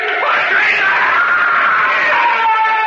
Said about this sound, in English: He began to scream. But then, after a while, he was silent.